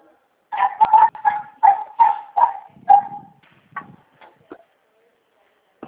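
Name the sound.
dog barking and whimpering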